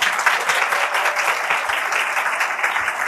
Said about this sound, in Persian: تشویقشون کنیم.